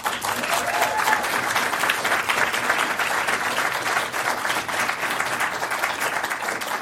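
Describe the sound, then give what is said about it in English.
A room full of people on a university campus applauds steadily to welcome a speaker, a dense, sustained wash of clapping that holds at an even loudness for several seconds without fading. “please give a warm welcome, a round of applause to Lily”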